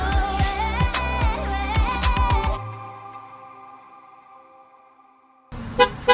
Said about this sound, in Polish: Czy pan, przepraszam, mógłby nie pikać w kółko tym samochodem, tylko piknąć raz i wystarczy?